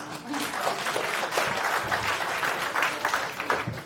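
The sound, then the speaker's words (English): An audience applauds a speaker introduced for a talk on lessons from cultivating open source projects and communities, a steady, dense, even patter of many hands clapping at once for a few seconds, with faint voices mixed into the noise. “Round of applause, please.”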